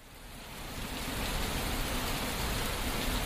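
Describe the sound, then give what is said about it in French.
Steady rain hisses across a broad band of noise as the weather turns stormy, swelling slightly in the first second and then holding an even, dense patter with no voices. “Alors que le temps tourne à l'orage”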